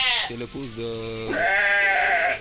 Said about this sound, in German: Vom Nachbarhaus ist Hammelgeblöke zu hören.